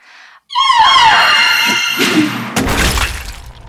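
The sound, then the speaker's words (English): A witch who is also a banshee screams, a shrill, wavering scream with a piercing, layered tone that rises and bends for about two seconds. It gives way to a loud crashing, shattering burst of breaking debris as the scream hurls a woman through a wall. “Morgan's scream hurls McKenna through the far wall.”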